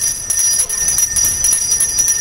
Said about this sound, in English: Boy, getting us in the holiday spirit here. Sounds like bell ringers with the Salvation Army.